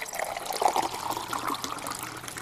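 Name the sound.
water running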